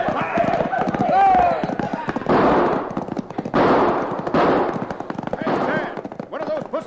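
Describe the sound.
Rapid, repeated gunshots crack in dense bursts as a sheriff's posse shoots it out with cattle rustlers, loud and nearly continuous, with shouting voices mixed in and what may be hoofbeats beneath.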